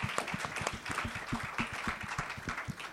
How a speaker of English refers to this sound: Effectivement, on peut l'applaudir.